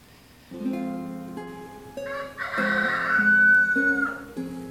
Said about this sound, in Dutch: De haan kraait